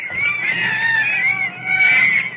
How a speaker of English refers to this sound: Listen to those monkeys chatter.